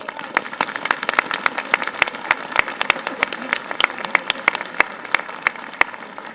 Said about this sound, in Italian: Bene, diamogli un applauso.